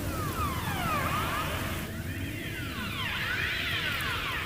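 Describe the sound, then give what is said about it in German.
An Atlantic umbra fish calling underwater in search of a mate, heard unaltered: eerie, laser-like whistling sweeps that dip and rise in overlapping arcs, repeating over a steady low rumble and hiss, sounding strangely electronic. “Das ist aber ein Fisch. Die atlantische Umba auf der Suche nach einer Partnerin.”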